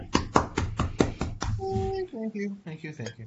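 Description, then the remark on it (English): About half a dozen sharp hand claps in a quick, steady rhythm, fairly loud, then the clapping stops and voices start talking. “Yeah, huge round of applause,”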